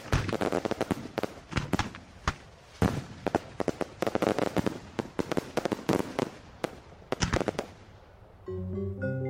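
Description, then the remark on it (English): A Bonfire Night fireworks display going off: a dense, irregular barrage of loud cracks and sharp bangs in quick succession, ending as a short burst of tonal music begins. “A fantastic firework display.”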